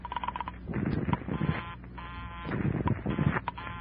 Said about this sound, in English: As she dialed, I tried to duplicate it with my phone. She dialed. And I dialed. I was just one number behind her all the way. When she was through dialing, I held off dialing the last number on my phone until she got an answer. And then I let it go.